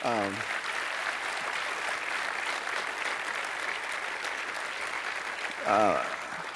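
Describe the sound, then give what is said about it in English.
Steady, dense applause from a crowd celebrating 446 decisions of faith in Jesus Christ, many hands clapping at once in a continuous wash, with a brief voice rising over it at the start and again near the end. “I mean, I think that's something we can clap about, isn't it?”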